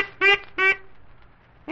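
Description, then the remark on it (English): Two short, nasal quacks from Happy Duck, a little duck, in quick succession, fairly loud, followed by a pause and the start of a third quack at the very end. “You're the finest little duck we've ever seen.”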